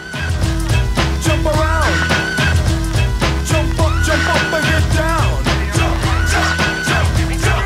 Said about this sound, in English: its signature sound is somewhat more elusive, the Psycho-like horn screech